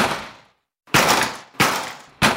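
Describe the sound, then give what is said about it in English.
A door being kicked repeatedly: loud, booming thuds with a sharp crack, each ringing out before the next strikes about two-thirds of a second later. No voices. “And when that didn't work, we tried kicking it.”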